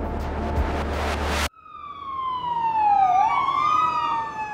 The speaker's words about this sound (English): I live near a hospital, and occasionally I hear a siren go by in normal times. But in the early days of the pandemic, I was aware of hearing the sirens much more frequently.